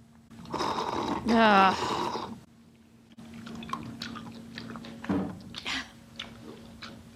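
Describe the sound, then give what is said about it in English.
Loud chewing of chunky chicken soup by a woman, with wet smacking and squishing bites in an uneven rhythm and a brief voiced murmur near the start. “Why is she chewing like that?”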